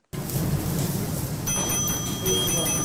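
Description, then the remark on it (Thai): Ambience inside the kitchen of a Kobe beef restaurant in Sandton, South Africa: a steady, busy wash of clatter and murmuring voices, with bright metallic ringing tones sustaining through the second half, like struck pans or utensils. “เสียงภายในครัวร้านเนื้อโกเบและกลิ่นที่หอมตลบอบอวลไปถึงภายนอกร้านดึงดูดให้คนที่เดินผ่านไปมาในย่านแซนตันซึ่งเป็นย่านการเงินที่ร่ำรวยที่สุดในแอฟริกาใต้ให้เดินเข้าไปในร้านแห่งนั้นเหมือนโดนมนต์สะกด”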